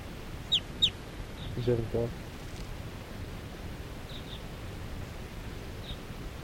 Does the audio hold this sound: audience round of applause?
no